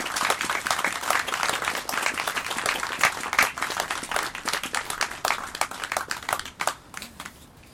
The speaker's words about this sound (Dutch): Jullie en ook de bomen en het gras en het water, de lucht en met name ook het strijkkwartet verdienen denk ik wel een groot applaus.